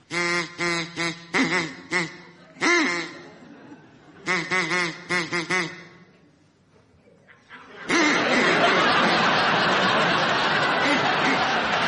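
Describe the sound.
Several bursts of rapid, nasal duck quacks come in quick rhythmic runs over about six seconds, fairly loud, then a brief lull gives way to a steady wash of crowd noise.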